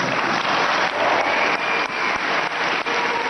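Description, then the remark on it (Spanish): A large crowd gives a sustained ovation for Real Madrid president Florentino Pérez after he praises coach Zinedine Zidane, dense applause filling the space continuously and loudly, with no talking over it. “Y ovación para Florentino, el mejor entrenador del mundo, Zinedine Zidane.”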